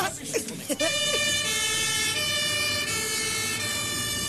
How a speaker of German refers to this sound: Aufhören, aufhören, Feuerwehr. Es ist Alarm. Ja, es brennt bei der Leihkassenbank.